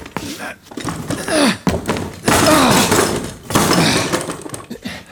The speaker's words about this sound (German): Machen Sie schon auf! Oder wir brechen die Tür auf! Tür aufbrechen!